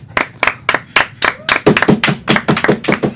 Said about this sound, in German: Ein kleiner Applaus